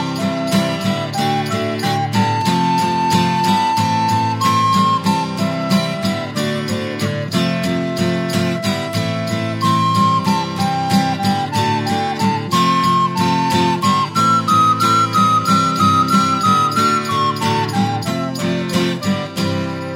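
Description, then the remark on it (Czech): A high, bright folk pipe plays a stepping melody over a full, steady band accompaniment with a regular rhythmic beat, loud and continuous throughout. “Dědek s ní loncoval a pak jí na píšťalu hrál.”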